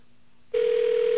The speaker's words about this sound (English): Okay, that is a phone ringing. Let's take a good listen to that. All that noise is the BAI connection. And that's what's basically known as static on the line, as an electronic ring, also known as ESS, electronic switching system